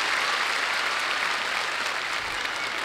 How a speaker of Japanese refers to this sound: そして、この公演に参加してくれた日本の4人のミュージシャンに、拍手。そして、本国イギリスから連れてまいりましたリズムセクションの皆様にも拍手。